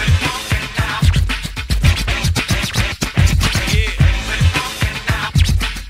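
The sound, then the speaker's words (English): A DJ's rapid turntable scratch cuts fire off in a dense, choppy rhythm over a thumping low beat, with quick back-and-forth swipes that stay loud and busy throughout. “Really cut that good, man. Them cuts is real, real dope.”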